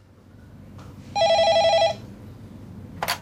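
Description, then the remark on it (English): A telephone rings once in a rapid warbling electronic trill lasting under a second, clear, followed by a brief click as it is picked up; an incoming call to the HealthLink phone line. “Hello, HealthLink phone line. Can I help you?”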